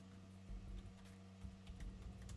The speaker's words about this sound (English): There we go. Man, my typing is like slow today. Here, let's do it this way. Y'all don't mind my typing on here. Don't mind my typing.